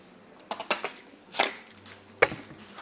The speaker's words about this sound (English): Let me have a slurp of water.